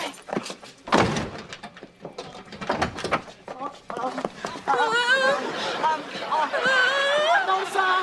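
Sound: door being opened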